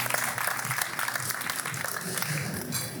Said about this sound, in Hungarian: Nagy taps nekik, a Sruli alapítói.